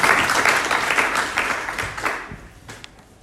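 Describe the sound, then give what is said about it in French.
An audience applauds the Lord together, a dense wash of many hands clapping that fades out over a few seconds, leaving scattered individual claps at the end. “Et moi, j'ai vraiment juste envie qu'on applaudisse le Seigneur.”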